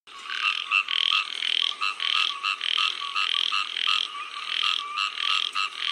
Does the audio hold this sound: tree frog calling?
yes